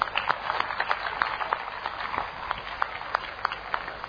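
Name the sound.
audience applause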